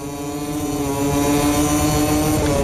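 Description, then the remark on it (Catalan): A loud, steady engine drone with strong harmonic whine holds throughout, swelling a little after the first second as racing motorcycles run past in a race with two laps to go, where Marini and Ogura battle for fourth and fifth. No one speaks. “Sentim-los. Conchi, pujam una miqueta el volum.”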